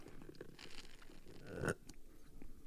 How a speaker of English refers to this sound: I'm about to take a sip of a delicious smoothie. I'm recording at home today, and Amy made this really, really good smoothie.